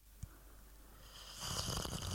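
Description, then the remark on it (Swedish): A soft click, then after a pause a long, airy slurp of someone sipping tea at home, rising and holding for nearly a second. Nobody speaks. “Slurpande?”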